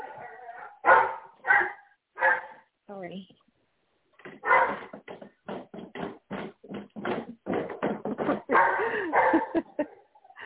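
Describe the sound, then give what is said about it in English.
A female pet dog barks in loud, repeated bursts: a few sharp barks, a short pause, then a rapid, sustained volley of yaps. A person briefly speaks over the barking. “Sorry, my dog is barking.”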